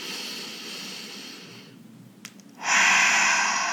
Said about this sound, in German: Das Erste ist immer atmen. Schritt 1 ist immer atmen. Weiter atmen und vor allem tief und langsam ein- und ausatmen.